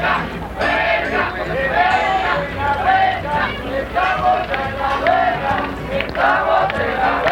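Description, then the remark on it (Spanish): A large crowd of students cheers and shouts together in the cold at Ciudad Universitaria of UNAM, at 11 at night on Wednesday, 28 January 1987. It is a dense, continuous roar of overlapping voices with rising, chant-like bursts throughout. “Entre porras y gritos, los estudiantes ahí reunidos luchaban contra el frío, acurrucados en sleeping bags, pasándose jarras de café y sándwiches entre los distintos contingentes”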